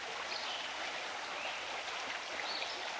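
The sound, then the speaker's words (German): A steady small brook in a forest babbles and splashes over stones and larger rocks, a continuous bright rushing wash with small gurgles and tiny ripples, no voices present. “Das Wasser tanzt über die Steine und größeren Felsen.”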